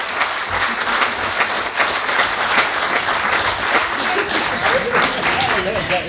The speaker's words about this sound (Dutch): Nogmaals een heel groot applaus, want het is een enorme verdienste.